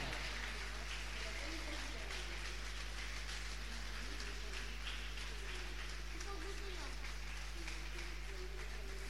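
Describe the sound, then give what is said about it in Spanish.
An audience applauds God after a Spanish-language sermon in a dense, steady wash of clapping that holds for about nine seconds without letting up, with faint voices mixed underneath and a low hum below. “¿Cuántos le pueden dar un fuerte aplauso a Dios por esta palabra?”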